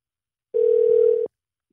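A single burst of phone ringback tone as Bob Saget calls a listener's phone, one steady mid-pitched electronic hum lasting under a second at constant loudness, then silence. No one speaks.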